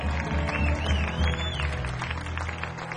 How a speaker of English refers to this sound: Ladies and gentlemen, can we get one more round of applause for … for opening up the evening?